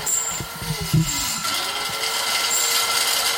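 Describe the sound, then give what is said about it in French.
Heavy forest-clearing machines roar steadily as they destroy the forest, a loud, unbroken mechanical din with a deep engine drone, grinding clatter in the first second, and thin whining tones above. “Les engins, dans un bruit d'enfer, continuent leur massacre.”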